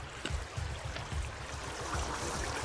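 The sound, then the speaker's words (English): Water taken straight off the ice while camping is poured to fill a pot for catkin tea, splashing and gurgling steadily, a continuous pouring rush with low bubbling underneath, heard alone with no voices. “So we're going to get a little bit of water straight off this ice.”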